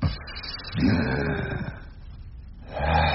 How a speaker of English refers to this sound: What a lung you have there, sir. It's a pleasure to hear your hearty breathing.